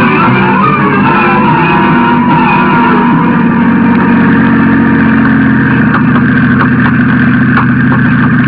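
car engine idling

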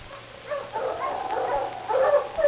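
sled dog team barking

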